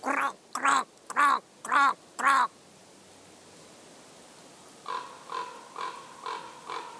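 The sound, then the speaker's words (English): A voice mimics a raven with five loud, rapid, throaty croaks; after a pause, a fainter series of five croaking caws answers. “And since then I've been calling ravens when I go into their habitat.”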